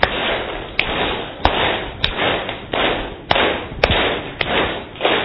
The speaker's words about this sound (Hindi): वाह, क्या तालियां, बहुत सुंदर एकाग्रता.